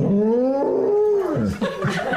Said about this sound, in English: there's a rather clever little golden retriever who does this great impression of a cow mooing. And while he's wearing this rather adorable cow costume, have a listen to this little golden retriever.